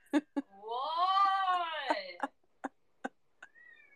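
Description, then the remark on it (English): One of Shizu's cats lets out one long, drawn-out meow that rises and falls over about two seconds, loud, surrounded by sharp clicks and taps. “They're very loud. Meowing extremely loud.”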